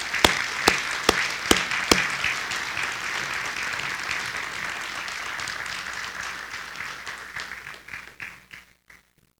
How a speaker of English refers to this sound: So, at this time, if you guys would come up here, I have a nice little plaque, a small token of our appreciation. And folks, once again, please help me giving these guys a nice round of applause.